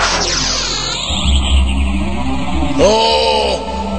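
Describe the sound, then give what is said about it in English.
A bus engine roars and speeds away, its pitch sweeping as it races off over a deep rumble, with a second sharp whooshing surge near the end. No one talks. “Get us out of here! Anywhere! Hit the bus!”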